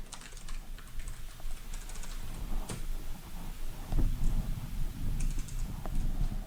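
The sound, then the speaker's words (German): Rapid clicking of computer keys being typed on while programming, steady, with irregular clusters of keystrokes running continuously and no voices. “Muss ich das nicht alles live hier tippen?”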